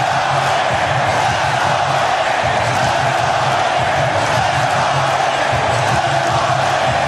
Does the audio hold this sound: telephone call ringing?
no